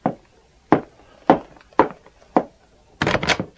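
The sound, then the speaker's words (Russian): A door is opened after a series of five heavy, evenly spaced wooden thuds, ending in a louder, rougher clatter as it swings open, with no voices. “Именем королевы Мэри, открой дверь.”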